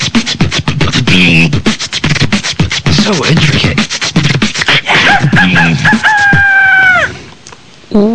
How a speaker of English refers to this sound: That was … blowing his nose. That's worse than the Apollo.